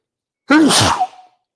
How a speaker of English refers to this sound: I might have to sneeze. Hold on 1 second. I might have to sneeze. Nobody leave. Please don't leave me while I sneeze. Hold on.